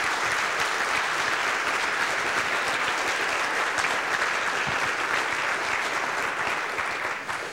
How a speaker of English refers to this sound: So I think it's appropriate to give them a round of applause by way of welcome.